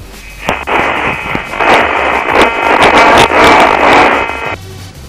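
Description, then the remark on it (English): A loud, harsh burst of cell phone control channel data tones from a phone receiver on control channel 333: a dense buzzing, static-like digital screech with crackly texture, made of high, low and middle (null) tones, lasting about four seconds and then cutting off abruptly. No voices. “Well, what you're hearing there are three tones.”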